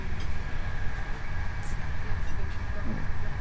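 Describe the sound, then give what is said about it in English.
Someone opens a self-closing train carriage door, which slides open with a brief hissing burst, set against the steady, loud rumble and clatter of the moving train. “Sorry, I hate it when somebody opens the door. It closes by itself, but if these trains go around a curve, you know, with the mountains, you know, then the door doesn't quite close as quickly as I'd like it to close.”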